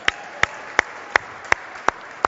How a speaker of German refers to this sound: Boah, geil. Applaus für die Mama, geil.